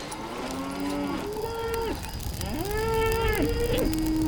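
Several cattle moo in long, drawn-out calls, two or three overlapping lowing voices rising and falling, over a steady background rumble of the herd as it is allowed to pass through.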